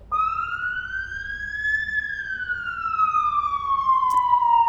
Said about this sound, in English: This is a fire engine.